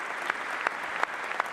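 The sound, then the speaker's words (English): Steady crowd applause hisses throughout, with four sharp, evenly spaced claps by Trump cutting through it in a slow, regular beat, roughly one every third of a second. “Trump's claps are the worst metronome ever.”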